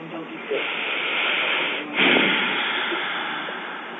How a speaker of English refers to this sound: Somebody's breathing out. I know, we haven't started yet, and they're tired.